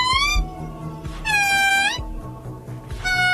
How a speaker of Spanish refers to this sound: Pues este sonido es de un mono, concretamente. ¿Mono? Es de un señor mono.